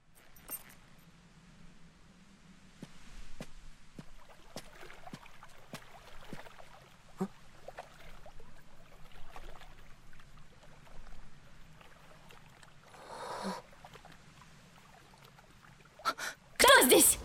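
Intermittent water splashes and drips scattered over a low, steady hum, with a longer sloshing burst midway and a louder splash right at the end.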